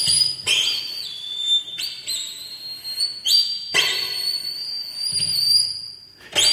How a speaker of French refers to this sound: Son sifflement est plutôt décrit comme particulièrement malaisant.